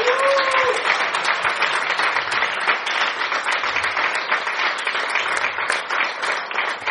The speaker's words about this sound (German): Ich warte auf euren Applaus, ehrlich gesagt. Danke.